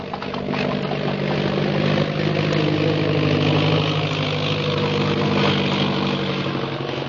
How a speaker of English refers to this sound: You hear an airplane motor? Yes. There. There is airplane. And there's Purple Triangle.